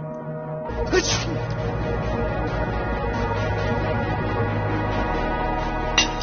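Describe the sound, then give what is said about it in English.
A sharp, sudden sneeze bursts out near the start over a steady, dense background hum, followed by another brief, softer burst near the end. “Sneeze in here. What's wrong with you?”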